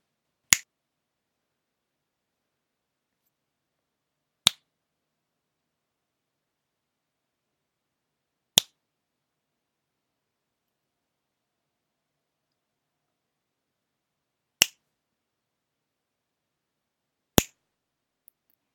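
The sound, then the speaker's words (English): Five sharp, crisp finger snaps ring out one at a time, separated by several seconds of silence at uneven intervals, with no voices or other sounds. “Then tell me, why does my cock twitch every time I snap my fingers?”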